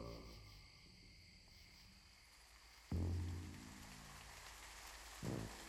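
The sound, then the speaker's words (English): Steady rain hisses down onto a wet street in Harlem at 2 a.m., forming many puddles; a soft, even wash of drizzle with two deep, muffled thuds breaking through, one near the middle and one toward the end. “Rain has fallen and created many water puddles in the streets of Harlem.”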